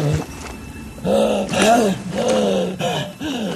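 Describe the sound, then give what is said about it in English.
Harsh, ragged breathing from a movie: a series of loud, heaving rasps with a strained, growly voiced edge, each breath rising and falling in a rough rhythm. “Here's some harsh breathing.”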